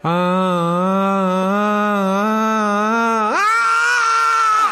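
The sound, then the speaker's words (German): A man lets out one long, loud, sustained scream that holds steady, then abruptly jumps to a higher, more strained pitch near the end. No other sounds. “So schreit der eine.”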